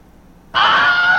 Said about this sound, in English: But the question and the moment that you've all been waiting for, am I gonna play the Wilhelm Scream?